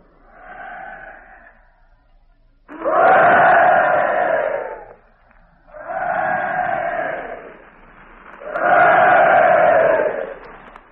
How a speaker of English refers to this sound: We steamed slowly into the harbor and the ratings of each ship cheered us as we went by. You can hear them in the distance and our own cheer in return.